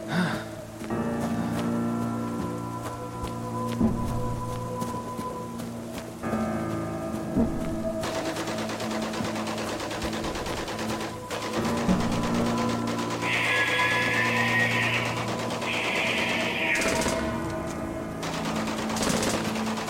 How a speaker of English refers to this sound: The shrieks and the gunfire were louder now.